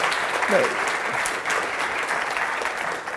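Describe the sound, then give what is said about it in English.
An audience breaks into steady, sustained applause for people who have just shared their story, a dense wash of many hands clapping at even loudness throughout, with a brief voice faintly audible underneath. “You guys give them a hand of applause.”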